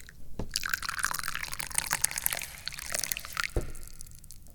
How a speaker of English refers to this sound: Well, because I'm drinking tea. Let's pour some.